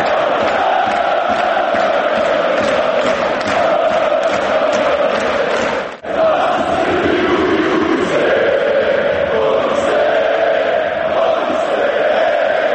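A large crowd of football fans at the Zenit–Crvena zvezda match at the Marakana stadium in Belgrade cheers and chants in a loud, continuous roar, greeting the Russian president and singing Katyusha, voices rising together in sung phrases, with a brief cut in the middle before the chanting resumes.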